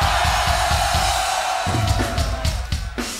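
A roaring concert crowd in Holland cheers loudly and continuously, a dense wall of shouts and whoops with scattered yells rising above the steady, sustained noise.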